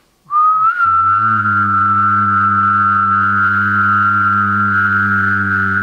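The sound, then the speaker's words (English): A person whistles a steady tone alone, then engages the vocal folds so a low sustained hum joins underneath, whistling and voiced humming sounding together, loud, holding evenly for several seconds, as a voice exercise. “So you should not change your air placement at all, but what I want you to do is understand that you can whistle and engage your vocal folds at the same time.”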